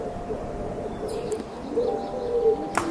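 Wild pigeons coo softly in a huge, echoing cavern up the side of a mountain as they fly back and forth between ledges and nests, low rolling calls repeating over a steady background hiss, with a brief sharp flutter near the end.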